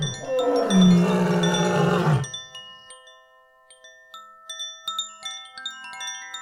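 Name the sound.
lions roaring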